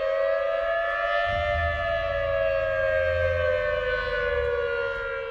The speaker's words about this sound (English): A peaceful night in Kodiak was shattered by the howl of tsunami sirens after a 7.9 earthquake hit almost 200 miles southeast of Kodiak.